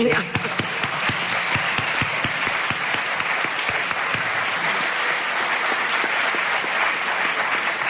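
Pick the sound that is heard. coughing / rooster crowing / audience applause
audience applause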